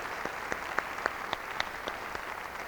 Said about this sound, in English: She is the editor of one of the finest publications on this type of music. Let's give her a round of applause for all the work she has done.